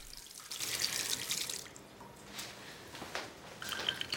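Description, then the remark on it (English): A tap runs with a steady hiss of water, then a woman wearing a stethoscope turns it off, leaving it dripping steadily with a few soft, irregular drips and splashes into a sink. No voices. “Gripping the stethoscope that's around her neck, she takes another deep breath before turning off the tap, leaving it dripping steadily.”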